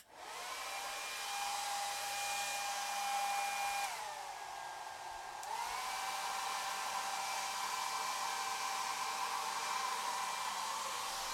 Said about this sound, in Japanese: じゃあドライヤーで乾かしていくね。スイッチオン。